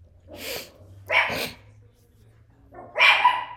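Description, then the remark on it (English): A dog named Ethel barks three times in sharp, fairly loud bursts, with short pauses between them and a low background hum throughout. “Ethel, you gotta stop barking for real. Be quiet.”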